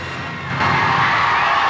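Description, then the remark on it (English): A large concert crowd breaks into loud, sustained clapping and cheering as a musical number finishes, the roar swelling suddenly after a brief moment and holding as a dense, continuous wash of applause. “the number finishes, the crowd is a sea of clapping, waving hands.”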